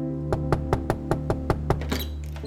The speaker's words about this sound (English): Onley and Margaret continued to knock, but the noise only roused the next-door neighbor